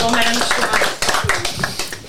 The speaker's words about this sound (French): Petite dédicace à elle d'ailleurs. Exactement. On pense très fort à elle. On l'applaudit.